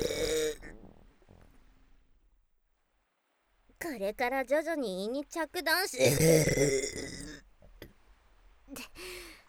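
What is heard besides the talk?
loud burp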